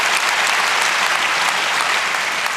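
A crowd applauds steadily, a dense, even wash of many hands clapping at a constant loud level with no voices standing out.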